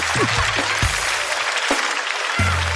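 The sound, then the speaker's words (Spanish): A crowd applauds steadily, a dense wash of clapping that fills the whole stretch at an even, fairly loud level, with a few low rumbling thumps underneath. “Un fuerte aplauso para mi amigo.”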